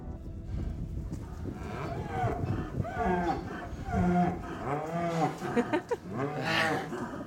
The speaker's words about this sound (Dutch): Dat is hier een stroobox. Dat zijn hier 2 koetjes die tussen vandaag en volgende week zullen afkalven.